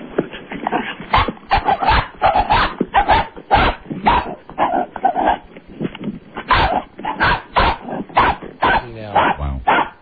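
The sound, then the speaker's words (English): A dog barks rapidly and almost without pause, a loud string of sharp yaps running the whole length, with a brief whimpering tone near the end. “This is like that crazy barking.”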